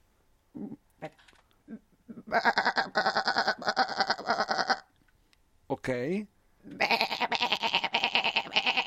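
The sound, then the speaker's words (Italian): A person imitates a sheep and then a billy goat with two long, wavering, nasal bleats separated by a pause, loud. A brief spoken word comes before them and a quick vocal glide sits between. “allora fai tutte e due e io e Leo dobbiamo indovinare qual è la pecora e qual è il caprone”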